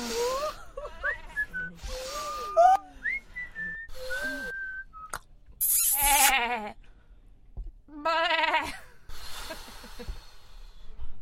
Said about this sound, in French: C'est des bisous chèvres en plus aussi. Ah mais oui, ils bêlent un peu ces petits bisous. Oui, c'est très étonnant.